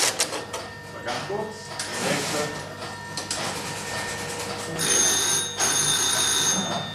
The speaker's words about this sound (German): Und jetzt, nach fast 60 Jahren, klingelt immer noch das Telefon.